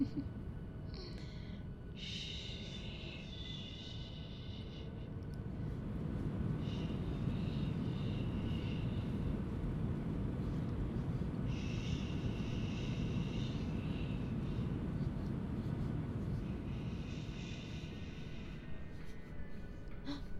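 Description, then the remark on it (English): Steady, loud low-pitched roar of an airplane cabin as the plane descends and lands, a constant engine drone with brief higher tonal whines rising and fading at intervals above it. “The drops are perfectly normal. The plane has to get down somehow.”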